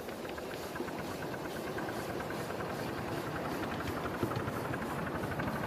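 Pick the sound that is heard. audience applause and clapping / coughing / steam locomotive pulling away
steam locomotive pulling away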